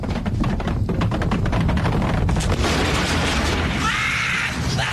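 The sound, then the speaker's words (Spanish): Homemade liquor bottles burst in a loud, rapid series of bangs and crackles, then a dense, sustained roar of blasts and debris fills the rest, with no voices. “Tu licor casero ha vuelto a explotar.”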